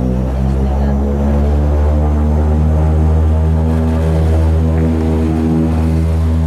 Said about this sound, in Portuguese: Ao fim de 4 dias sem voos, o pequeno avião, com pouco mais de 20 lugares ocupados, parte para o Corvo.